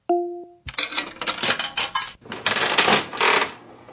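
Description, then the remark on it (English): Reels of a voice-activated slot machine game spinning after the spoken command "pull": a brief tonal chime, then several seconds of dense, loud mechanical clattering and whirring, with a short dip partway through before the rattling resumes. “Open slot machine. If you want to start, say pull.”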